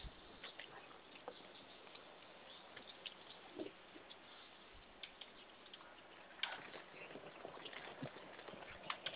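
Horse hooves clip-clop in an uneven series of soft, hollow knocks, fairly quiet, with a faint background hiss and no one talking.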